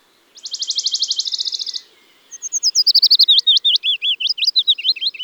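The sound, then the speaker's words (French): A Western Bonelli's warbler sings a rapid, dry, high-pitched trill of even notes lasting over a second, followed after a short pause by a different bird's sweeter, descending series of whistled notes. “Le pouillot de Bonelli.”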